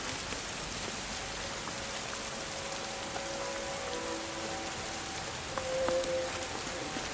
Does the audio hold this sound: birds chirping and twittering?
no